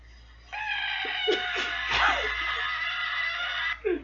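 A frog that puffs itself up lets out a loud, sustained, high-pitched scream lasting about three seconds, steady and harmonic like a shrill wail, with a few soft thumps underneath and a brief squeal at the end.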